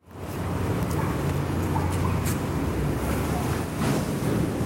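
Heavy trucks rumble across a bridge in an industrial district of Manila, a loud, continuous low roar with occasional rattling thumps rising above it, with no one speaking.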